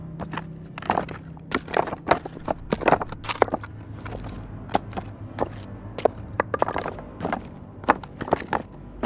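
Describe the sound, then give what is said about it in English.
Dragging footsteps scuff along in an uneven, shuffling rhythm, coming closer, fairly loud, with a low steady hum underneath and no voices. “But none of these sounds drowned out the dragging footsteps that was annoyingly coming closer to where I was.”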